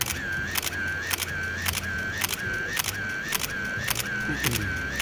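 A camera shutter clicks about ten times in a steady, even rhythm, each sharp snap separated by a short high whine, with a low rumble underneath and no voices.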